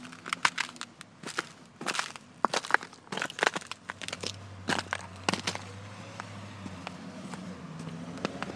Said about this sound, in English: and just let you hear the crunchy ice here. It's still pretty icy here on the sidewalks, so okay, we'll let this car go by first, and then so here is the crunchy sidewalk.